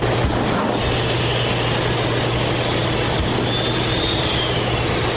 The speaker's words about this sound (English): But there are no plans to shut down the 40-year-old Tilden mine, and Cliffs says it will keep running a huge ore processing facility. Inside that hot, dirty, and deafening building, giant machines rumble, rattle, and whistle.